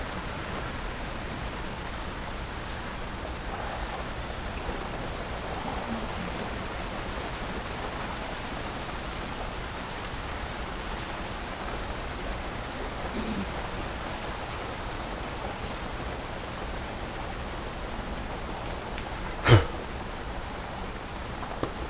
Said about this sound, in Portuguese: It's raining so much.